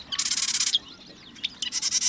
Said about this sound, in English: The marsh wren.